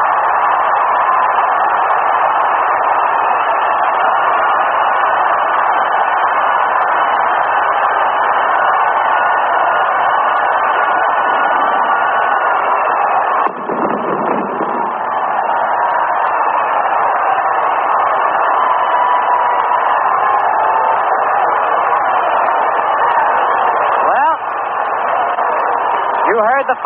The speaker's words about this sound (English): And you hear the crowd. There they go again.